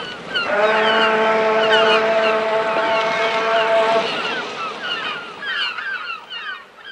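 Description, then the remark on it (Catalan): Seabirds call repeatedly over a steady wash of sea waves, while a long, droning horn-like tone sounds through the first few seconds before fading out. “L'ambient ja és d'ocells i de mar, o no?”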